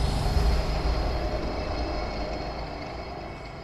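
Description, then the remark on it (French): A deep, continuous rumble of a metro train passing underground beneath a basement, heavy low-end roar with a faint steady hum above, slowly easing in loudness over a few seconds. No voices. “quand on est dans ce sous-sol, on entend, peut-être l'entendrez-vous tout à l'heure, le bruit du métro. Le métro qui passe en dessous de soi.”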